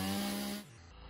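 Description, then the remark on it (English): A loud chainsaw engine roars, then abruptly bogs down and drops in pitch partway through as the chainsaw hits a pair of chainsaw-resistant pants on a man's leg, whose woven fibers tangle in it, with no voices. “So what we're looking at here are a pair of chainsaw resistant pants.”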